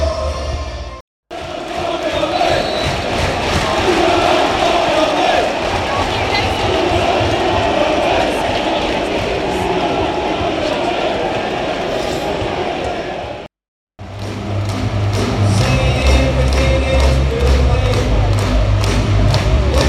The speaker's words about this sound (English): Sample of the crowd atmosphere before the game and just after the start, and it was really, really overwhelming feeling to be there for the match on Sunday.